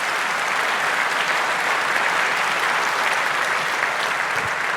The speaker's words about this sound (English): But before that, another round of applause. I think this was great.